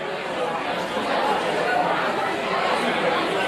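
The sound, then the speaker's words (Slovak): A crowd of 60,000 people gathered in Sydney's Centennial Park on New Year's Day 1901 to witness the formation of Australia murmurs and chatters all at once, a dense, steady wash of overlapping voices with no single speaker standing out, holding an even loudness throughout. “Tak toto znelo v sydneyskom Centennial Park na nový rok 1901, keď sa tam zhromaždilo 60,000 ľudí, aby boli svedkami formovania Austrálie v takej podobe, ako ju poznáme dnes.”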